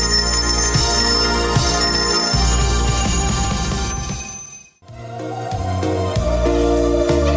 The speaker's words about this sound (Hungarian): És hát ugyebár már a téli ünnepek, ugye karácsonyi félvesztel meg ünneplése után vagyunk, a még téli hangulathoz hozzátartozó csengőket is megszólaltatják.